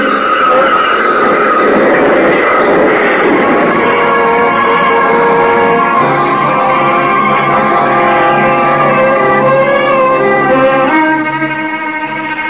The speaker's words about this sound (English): Hey, look at that. That car better slow down for that train. Hey, look!